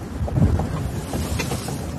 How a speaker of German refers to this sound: Wir sind voll im Wind.